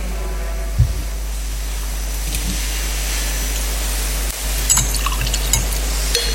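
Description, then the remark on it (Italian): A small amount of water is poured into wine in a chalice, a faint, brief trickle with a few soft drips over a steady background hiss, with no talking. “L'acqua unita al vino sia il segno dell'unione con la vita divina di colui che ha voluto assumere la nostra natura umana.”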